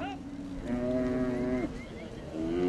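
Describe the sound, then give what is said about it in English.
Several cattle moo in long, drawn-out bellows that overlap and trail off, with more lowing rising at the end over a steady rumble of about 1,000 exhausted cattle being driven by two dozen cowboys up Highway 124 near Winnie to a fenced pasture after Hurricane Ike. “2 dozen cowboys are driving 1,000 head of exhausted cattle up the road to a fenced pasture.”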